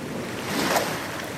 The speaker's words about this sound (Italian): Le onde del lago si rompevano contro l'imbarcadero. Erano grosse e mandavano col vento.